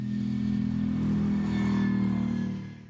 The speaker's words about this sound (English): Those sound like V8s. Yeah. That's a long car, man. The hood is really long. Yeah. So probably twin turbo V8 with some sort of hybrid system?